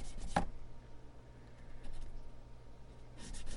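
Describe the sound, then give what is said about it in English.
Guitar frets being sanded with green Zona abrasive paper to remove scratch marks: a few short, scratchy rubbing strokes, the clearest at the start and end, separated by quieter rasping over a faint steady low hum. No one speaks. “I don't know if you want to count how many times I just went up and down.”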